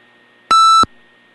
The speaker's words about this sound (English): My apologies for beeping.